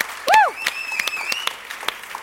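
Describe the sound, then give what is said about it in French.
Audience applause for bass player Sarah Virtanen: a dense, steady patter of many hands clapping, with a brief high whistle that rises and falls near the start and a thin sustained tone behind the claps. “Can we give a hand to Sarah Virtanen?”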